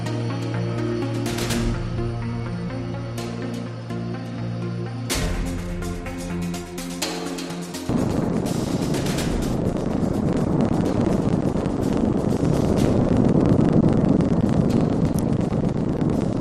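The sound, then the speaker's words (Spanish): A few seconds of tonal music give way to a sudden, loud volcanic explosion as the eruption begins on the island of La Palma in the afternoon: a deep, continuous roaring rumble that stays steady and powerful to the end, with no voices. “Con esa explosión, con ese sonido del volcán, comenzaba la erupción en la isla de La Palma, pues en la tarde de ayer, concretamente eran las 3:15 hora canaria.”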